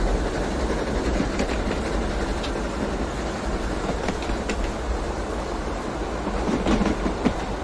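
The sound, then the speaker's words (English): A train rolls slowly and steadily along the rails toward a bridge under repair, with a continuous low rumble and faint rhythmic clicks of wheels over track joints, fairly loud, no voices. “she explains the instructions again as the train is going back and forth”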